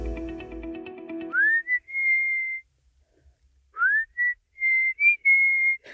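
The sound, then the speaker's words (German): A person whistles a short tune in two phrases, each rising in a quick upward slide and then holding clear, steady notes, with a brief pause between them. The whistling is fairly loud. “Ich habe es gerade ein paar Mal versucht, aber so gut scheine ich dann doch nicht im Pfeifen zu sein.”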